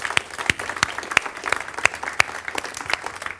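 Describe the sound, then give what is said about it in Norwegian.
A church audience breaks into steady applause to welcome newcomers, a dense wash of clapping with a few sharper claps landing in an even rhythm roughly three times a second. No one speaks. “Ja, vi gir en klapp.”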